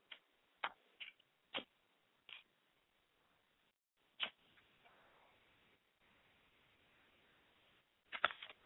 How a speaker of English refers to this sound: I light a candle for my Father's Spirit.